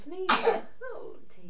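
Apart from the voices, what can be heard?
sneeze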